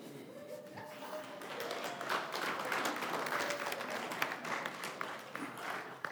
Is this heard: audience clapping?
yes